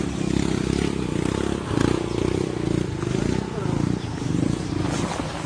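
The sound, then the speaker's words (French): A motorcycle engine labors at a small bridge as a family fails to get their motorbike, loaded with big sacks of rice, moving forward; its low, throaty rumble surges and dips in uneven revs as it strains, continuous throughout the few seconds. “Là, on est tous descendus et pour pouvoir passer, là, il y a une famille là, qui n'arrive pas à faire avancer sa moto.”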